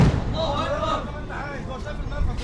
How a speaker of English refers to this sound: People who have been here for several days say these explosions are closer and louder than any they've heard so far.